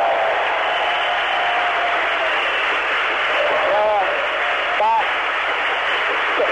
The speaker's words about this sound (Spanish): Va a recibir el conjunto del Sandimas en primer lugar. Aplaude deportivamente también el GIG. Hay aplausos para el Sandimas Alemar de León, que acaba también de alcanzar el ascenso a la división de honor.